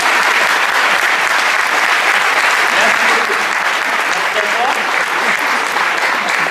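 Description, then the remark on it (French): Sustained audience applause as performers join hands and take their bow, a dense, steady wash of many hands clapping at a constant loud level for several seconds, with faint voices mixed into the crowd noise. “Tout le monde va t'applaudir.”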